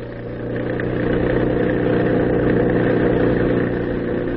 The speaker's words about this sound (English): Our opening scene is a stretch of lonely, dark highway. Over it, roaring through the night, comes a motor truck. In the truck, the shadowy figures of two men.